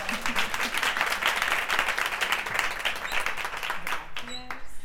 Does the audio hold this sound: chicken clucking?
no